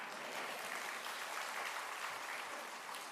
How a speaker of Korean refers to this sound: 하나님께 박수 치는 겁니다.